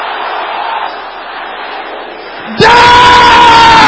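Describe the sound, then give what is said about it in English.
A large crowd shouts a prayer together in a sustained, loud roar. It swells abruptly into an even louder, distorted burst of massed voices near the end. “Can I hear you shouting, Israel?”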